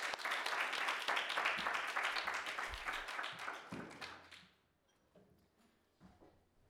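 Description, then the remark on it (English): An audience at a talk applauds to welcome speaker Peter Tatchell: a dense, steady burst of many hands clapping for about four seconds, then thinning out and fading to a few scattered claps and quiet. “So please do get thinking and join me in a warm round of applause for Peter Tatchell.”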